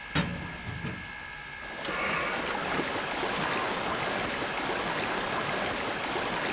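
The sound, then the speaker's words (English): Water rushes in a steady, continuous, fairly loud gush into a steam locomotive's tank after a brief clunk and a few seconds of quieter mechanical noise, with no voices. “We need to take on some water.”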